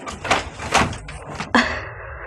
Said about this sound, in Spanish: Llamados a la puerta.